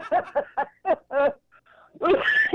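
A quick run of five short, harsh coughs in a steady rhythm, then a brief pause and a longer, rougher burst of hacking, loud and with no talking over it.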